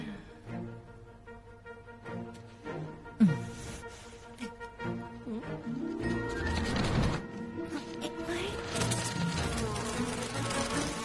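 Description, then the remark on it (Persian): A steady, droning buzz of mosquitoes hums throughout, rising and growing denser in the second half, with a sharp knock partway in and a brief noisy burst near the middle. “پشه‌های مزاحم، پشن دیگه.”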